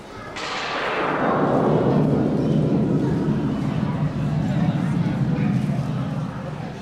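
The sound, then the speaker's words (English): A synthetic lightning strike made from the sound of a match with echo added: a sudden sharp crack that swells into a loud, sustained rolling rumble, its bright edge sliding steadily downward in pitch over several seconds. “A lightning strike made out of a match.”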